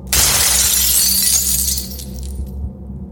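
Glass shatters loudly in an office at a karate school in Bedford, Texas, a sudden bright crash followed by a spray of tinkling fragments that fade over a couple of seconds, with a low hum underneath.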